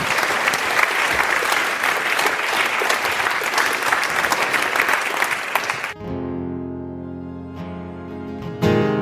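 An audience applauds a singer-songwriter as he is introduced, with dense, loud, steady clapping for about six seconds, then the clapping gives way abruptly to music with sustained tones.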